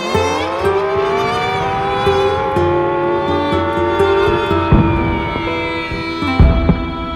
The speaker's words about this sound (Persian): توجه توجه، علامتی که همکنون میشنوید اعلام خطر یا وضعیت قرمز است و معنی و مفهوم آن این است که حمله هوایی انجام خواهد شد. محل کار خود را ترک و به پناهگاه بروید.